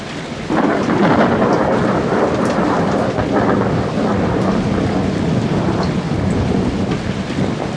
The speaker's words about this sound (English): Since I was man, such sheets of fire, such bursts of horrid thunder, such groans of roaring wind and rain, I never remember to have heard.